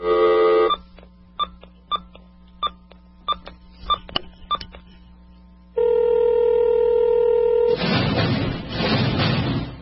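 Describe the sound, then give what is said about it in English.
A telephone dial tone cuts off, then a quick series of touch-tone beeps punches in a number to place a call, followed by a steady ringback-type tone and a burst of line noise, all clear with no talking. “It's just around 10 o'clock is when we phone him, just to bug him in the middle of a movie.”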